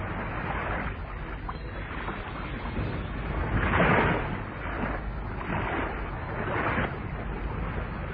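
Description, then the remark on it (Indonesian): A small boat moves across water to approach another boat fitted with a small lamp, a steady churning rush with a few louder swells as it surges along, heard alone without any voices. “Aku akan menggunakan perahu kecil yang di sana itu untuk mendekati.”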